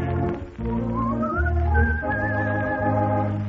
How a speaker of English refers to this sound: But I found out, I know it's true, a whistle does much more for you. So I love to whistle. Troubles don't come near me, especially when they hear me.